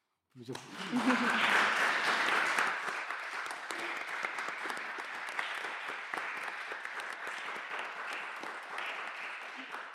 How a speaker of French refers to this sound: Ben oui, on applaudit quand même cette création sonore collective des quatre groupes que vous avez eus.